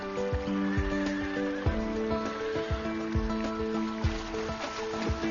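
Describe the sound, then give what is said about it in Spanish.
Wild horses neigh and whinny in drawn-out, tonal calls over a steady outdoor backdrop on Ostrov Island in the Danube, part of the Iron Gates reserve, with soft low thuds recurring throughout. No one speaks. “Es un refugio natural para aves, peces y hasta caballos salvajes.”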